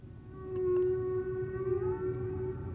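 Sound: humpback whale song recording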